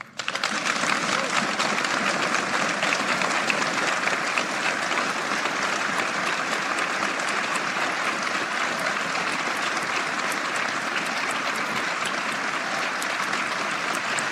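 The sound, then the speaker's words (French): Sustained applause from Elisabeth Borne and guests, including cabinet members and parliamentarians, in the courtyard of Matignon after a speech of about fifteen minutes by Jean Castex: a dense, steady clatter of many hands clapping at an even loudness for about fourteen seconds, with no voices standing out. “Voilà, discours d'une petite quinzaine de minutes de Jean Castex, très applaudi par celle qui va lui succéder, Elisabeth Borne bien sûr, et puis par les invités qui sont dans la cour de Matignon, les membres des cabinets, les parlementaires”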